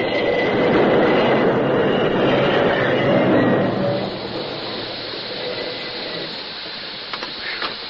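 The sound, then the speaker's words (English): A train rumbles loudly as it brakes to a complete stop, a broad grinding roar that eases after about four seconds into a steadier, quieter hiss and rattle, stopping just a few yards from the gap where a bridge used to be. No one speaks. “The train responded slowly to his efforts until just a few yards from the gaping space where the bridge used to be, it came to a complete stop.”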